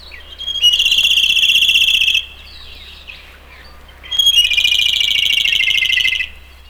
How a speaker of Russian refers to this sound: Даже не подумаешь, что эта короткая песенка принадлежит соловью. Всего одно колено. Соловья этого называют свистун.